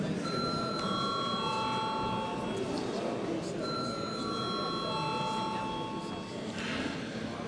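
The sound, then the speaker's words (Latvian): A parliamentary voting bell rings in steady electronic tones in the Saeima, Latvia's parliament, calling a vote on approving a Riga district court judge, sounding in two long stretches over a constant murmur of people talking and moving around. “Lūdzu arī jūs atbalstīt šo lēmumu projektu. Paldies, lūdzu zvanu.”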